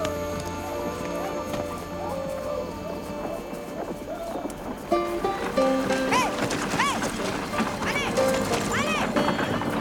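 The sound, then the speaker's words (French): Horse hooves clip-clop steadily as the horse heads back to camp, set against a busy background with muffled voices and some higher tonal calls growing louder in the second half. “Finalement, détachant mes bras de son cou, il me confia la responsabilité du cheval qui repartit avec moi au camp.”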